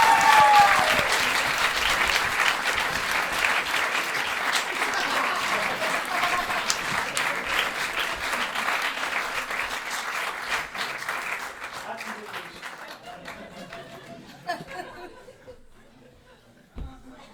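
An audience claps for a question in a dense, steady burst of applause with some scattered laughter, the clapping gradually thinning and fading out toward the end, leaving a few last claps.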